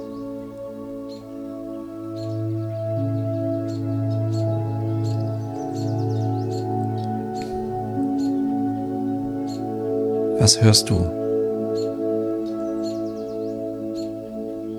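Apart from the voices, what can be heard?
birds singing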